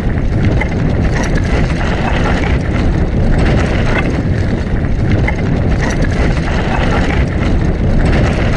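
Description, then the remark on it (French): Steady, loud wind roars over the microphone throughout, a dense, buffeting rush from a fast mountain bike descent at the Domaine de Cangé in Saint-Avertin, France, hands gripping the handlebars, with faint mechanical rattles underneath and no voices. “Saint-Avertin, c'est aussi l'amusement au domaine de Cangé, où l'on peut faire quelques descentes de VTT à fond la caisse, les mains serrées au guidon, le vent qui nous passe sur la côté de la tête.”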